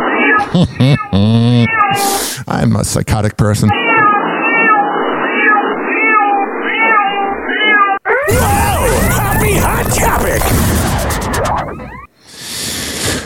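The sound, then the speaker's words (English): A cat yowls and meows loudly in long, wavering, insistent cries, with a man's voice speaking and shouting "Shut up!" at his cat between the cries. “You hear a screaming cat and a radio host saying shut up to a sound of his cat.”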